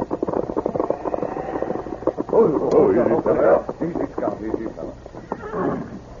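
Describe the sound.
A horse carrying the Circle C brand, its saddle covered with snow, whinnies loudly, its rising neigh ringing out over the steady clip-clop of hooves, with a man's voice speaking briefly in between.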